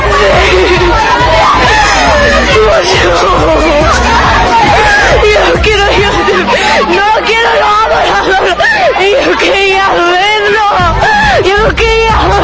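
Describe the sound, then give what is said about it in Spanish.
A big crowd of concert fans at the Arena Monterrey screams and shouts nonstop, many high, excited voices overlapping into a loud, dense roar with rising and falling shrieks throughout, and no single voice standing out. “Los gritos de todos lados de la gente.”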